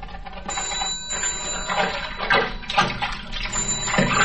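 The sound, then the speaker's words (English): A telephone rings over steady running water of a bathtub, its high electronic tone sustained across most of the stretch while the water splashes and gurgles underneath. “I was just getting back into the tub when the phone rang.”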